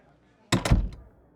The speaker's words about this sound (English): Close the door. That was not a question.